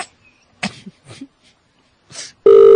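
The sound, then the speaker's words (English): A few short, scratchy bursts of noise, then a loud telephone ring cuts in abruptly at the end: a steady, buzzy electronic tone with a bright, harmonic-rich timbre. “It's a loud ring. That ring's got authority.”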